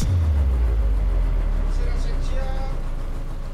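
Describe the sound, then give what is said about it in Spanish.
A motor launch used as a bus rumbles loudly, then its low drone drops away as the boat slows to a stop at a battered pier of worn wooden planks, with faint background voices. “La lancha autobús se detiene en un estropeado embarcadero de maderas gastadas”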